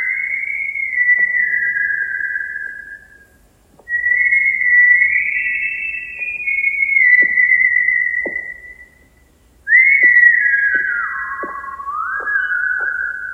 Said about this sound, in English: Okay, we've covered the whistling aspect of this movie.